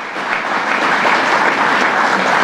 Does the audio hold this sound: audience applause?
yes